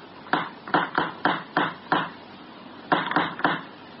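knocking on a door

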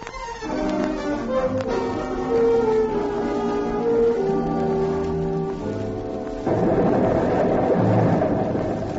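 explosion

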